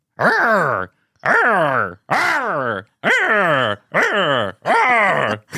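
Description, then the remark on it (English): A woman imitates a noise she claims was Bigfoot, sounding like a dog in distress, with six loud, strained howling wails in quick succession, each rising then falling in pitch, separated by short pauses. “She is describing a noise that to me, and then she starts to make the noise, right?”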